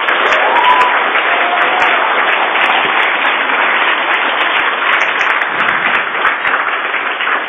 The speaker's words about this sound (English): But a big round of applause for our judges today,